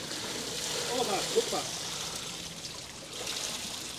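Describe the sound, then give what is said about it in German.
Water being pressed out with feet so the load is less heavy, a steady trickling, draining hiss with a few soft splashy squelches early on, moderately quiet. “Jetzt machen wir gerade mit unseren Füßen hier das Wasser raus, dass es nicht ganz so schwer ist.”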